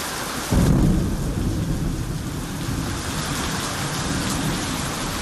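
nature, heavy rain and thunderstorm

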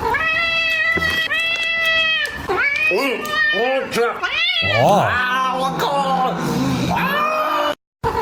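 animal, cat meowing

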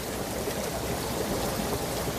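sound effect, bubbling water

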